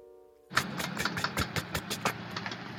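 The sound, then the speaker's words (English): A car engine, started by turning the key in the ignition, cranks and catches with a sudden loud burst, then runs rough and uneven, sputtering in irregular pulses as it revs up. “It's rough, fitful, loud, but the engine roars to life.”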